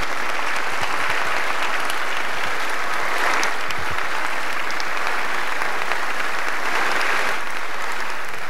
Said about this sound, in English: That was inspiring. I'm pretty sure that was the first time in history people applauded a Zoom call.